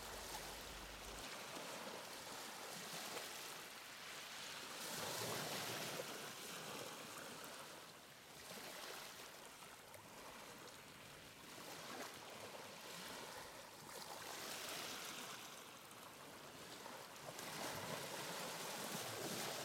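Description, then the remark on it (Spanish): Waves break on the shore in a continuous hissing wash, swelling and receding every few seconds. The surf sounds steady, with no voices. “Escucha el agradable sonido de las olas rompiendo la orilla.”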